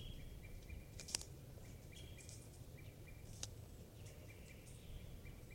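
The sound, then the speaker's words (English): Wild birds call from the trees in short, repeated high notes, fairly faint over a low outdoor rumble, with a couple of sharp clicks. “Recording the wild birds are tooping in the trees.”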